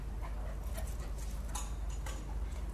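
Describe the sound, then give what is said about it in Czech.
A dog barks several times in short, irregular bursts, fairly faint over a steady low background rumble. “Dharmou třeba psa, nebo to slyšíte, je, aby štěkal.”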